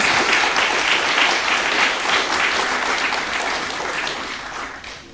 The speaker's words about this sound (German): Und nochmal Applaus.